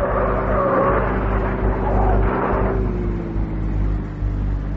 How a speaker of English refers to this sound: I run outside, grab a police car, and start chasing. The roads are wet and slippery, and when we reach a bend just outside the city, the car I'm chasing doesn't make it.